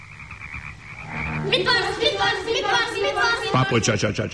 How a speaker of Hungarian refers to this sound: Körülötte játszanak a békaporontyok, fejest ugrálnak a vízbe, és egyre kuruttyolnak.